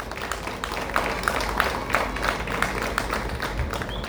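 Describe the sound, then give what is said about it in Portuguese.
An audience applauds steadily for about four seconds, a dense wash of clapping with a few sharper claps standing out at a fairly regular pace, honouring a man who served as honorary consul of São Tomé and Príncipe. No one speaks over it. “E peço uma salva de palmas, por favor.”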